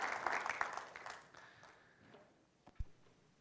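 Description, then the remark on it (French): A burst of clapping, applause offered to God, dense and loud for about a second, then thinning and fading away, with a single dull thump near the end. “Combien disent en l'applaudissant Dieu, « Moi, je m'engage à être une lumière.”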